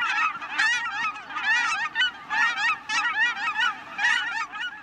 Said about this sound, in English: Thanks to this habitat conservation, there are now more than 120,000 Aleutian cackling geese, making the biannual journey between Alaska and the Gulf of Mexico.